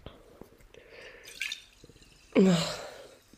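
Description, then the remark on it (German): Scattered small drips and light watery clicks, then a sudden louder splash or gush of water near the end that fades off. No one speaks. “Mein Scherz, das ist Wasser.”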